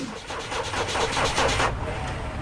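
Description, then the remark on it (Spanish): A car engine sputters in a quick, uneven run of rough popping bursts, chugging for a moment before it cuts out and the car stops. Afterward only a low, steady rumble remains. “Can you hear this strange sound? Uh-oh, that doesn't sound good. The car stopped.”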